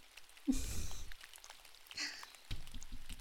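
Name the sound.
rain falling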